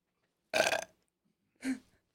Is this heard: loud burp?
yes